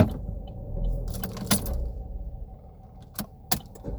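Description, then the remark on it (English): A truck pulled up behind a parked car runs its loud cooling fan, droning steadily in a constant low whir, while a few sharp metallic clicks and jingles pop out over it. “I had this car pull up behind me and his fan was loud.”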